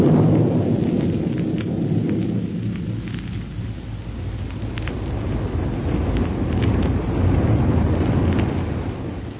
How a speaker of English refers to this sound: But let's first pick up Buck and Wilma aboard their rocket plane as it roars along on its way to Dr. Huer's laboratory in Niagara.